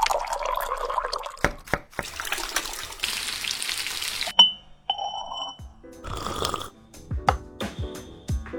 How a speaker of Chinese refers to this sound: 有时候就是馋了以后就会炸一锅馒头片。然后趁着那个馒头片刚出锅，把冰箱里那个冰镇的臭豆腐抹在上面。